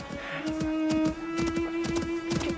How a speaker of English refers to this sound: Whatever's that? Oh, goodness, mind the donkey,